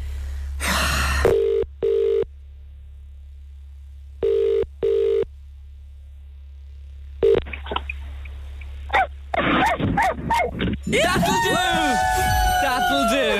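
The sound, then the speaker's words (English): A few short phone ringback tones, then a woman's voice over a telephone line imitating a dog with a run of barks and yelps, growing louder toward the end. “She sounded like a real dog.”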